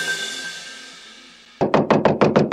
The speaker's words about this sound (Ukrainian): Привіт, сусід. Чому так голосно стукаєш?